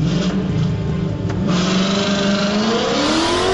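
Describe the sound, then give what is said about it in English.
A Corvette driven by Kyle Jenkins in lane number one revs hard and accelerates, its pitch climbing steadily as it shifts through second and third gear, loud with a continuous roar and no talking. “There goes second and third gear for the Vet.”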